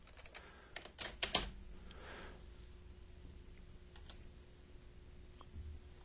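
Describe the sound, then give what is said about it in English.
Irregular clicks of a person typing an email on a computer keyboard, a quick cluster of keystrokes near the start, then sparse taps, fairly quiet over a low background hum. “I'm typing. I'm typing an email to the guy.”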